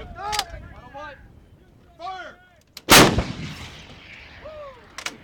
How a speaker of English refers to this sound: So we're now at a second location at the Yakima Training Center, and they are preparing to fire an M777 howitzer. A warning, it's loud.